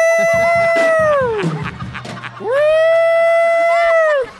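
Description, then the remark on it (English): A voice imitates a police car siren, as the noise for police cars in West Hollywood, with two long, loud, wailing 'woo' tones, each holding a high steady pitch before sliding down, with a brief low hum in the pause between them. “I heard you got a job in West Hollywood making a noise for the police cars.”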